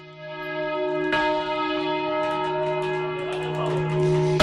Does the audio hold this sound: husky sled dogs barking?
no